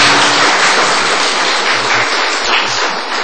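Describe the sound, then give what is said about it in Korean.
A large group applauds steadily in thanks to the pastor for delivering the sermon, a dense wash of many hands clapping at once that stays loud and even for a few seconds with no one speaking. “이렇게 말씀 전해주신 우리 목사님께 감사의 박수장을 올리길 바랍니다.”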